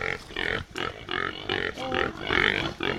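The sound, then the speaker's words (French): Pigs grunting as they approach, in a steady run of loud, rough snorts, roughly two per second, with no pauses and no talking over them. “Piggies! Focus! Ils arrivent.”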